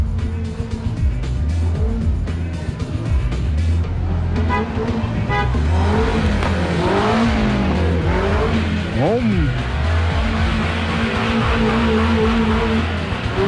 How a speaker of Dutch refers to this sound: Je hoort het wel, man. Is het de autocross? De mooiste van Texel. De Ronde van Oostrent, editie 14.